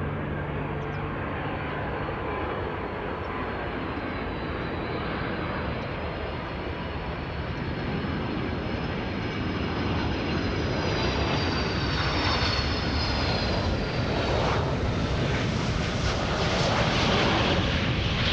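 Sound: airplane landing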